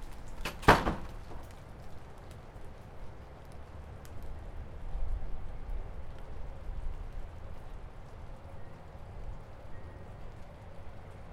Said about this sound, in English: Well, I guess it's not really raining. Dripping.